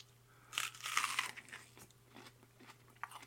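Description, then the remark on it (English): Crisp crunching of food being chewed: a loud burst of bites up front, then several softer crunches spaced through the rest, with a faint steady hum underneath and no talking. “Don't want to chew on the sand, you know.”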